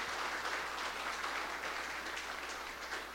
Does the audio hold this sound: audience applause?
yes